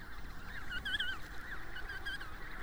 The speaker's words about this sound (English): Nature's soundtrack is a loud chorus of penguins squawking and calling to one another. It's unbelievable at first. This sight of 10,000 black and white penguins with stiff black backs playing and waddling across the snow and ice.